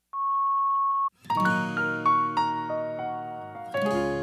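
voicemail recording beep tone

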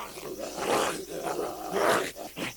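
dog growling

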